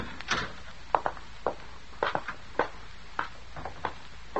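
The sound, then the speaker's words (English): A cellar door, left unlocked, is opened amid a string of sharp clicks and wooden knocks, a dozen or so taps spread unevenly over a few seconds, with no voices. “You see, it's unlocked as he left it. Close the door behind you, Colonel.”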